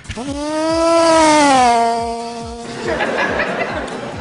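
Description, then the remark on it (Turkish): A Suzuki motorcycle passes on a highway: a loud, buzzing engine whine climbs, holds steady, then dips slightly before giving way to a rough rushing noise. No one talks. “Bu da Suzuki'nin otobandan geçişi.”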